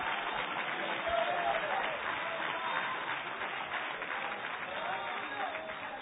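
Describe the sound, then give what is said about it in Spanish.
Sustained applause from a large crowd, given for the Lord: a dense, steady wash of clapping that stays loud and even for several seconds, with faint voices calling out underneath. “Un aplauso al Rey que vive.”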